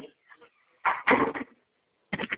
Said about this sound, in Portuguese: Deixa eu fechar a porta aqui.